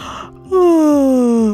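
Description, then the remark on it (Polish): A voice imitates the sleepy yawn and stretch of a rabbit, Chrupcio, getting out of bed on a sunny morning: a short breathy intake, then a long, loud, drawn-out tone sliding slowly downward, alone with no talking. “Przeciągnął się ospale, ziewnął sobie i poprawił futerko.”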